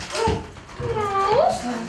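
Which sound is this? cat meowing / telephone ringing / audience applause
cat meowing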